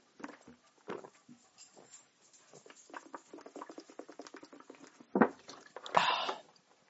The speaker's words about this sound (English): I'm taking a drink of water. A swig of water, if you will.